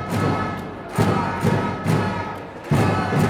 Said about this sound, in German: Am Ende gewann der Handballsportverein Hamburg verdient mit 33:28. Jubel also nur bei den Gästefans.